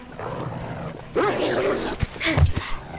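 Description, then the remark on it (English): A wolf snarls and growls after a quiet moment, then lets out a couple of short, sharp barks, loud and aggressive with no talking over it. “Eli readies his maul and runs forward to engage the wolf.”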